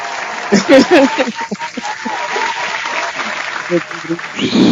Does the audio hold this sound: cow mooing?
no